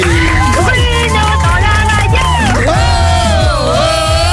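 A studio audience applauds and cheers loudly and continuously, with whoops and shouts rising and falling over a steady rhythmic low beat throughout.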